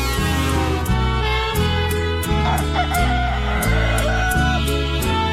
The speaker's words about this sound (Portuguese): Galo cantou 4:20. Bom dia.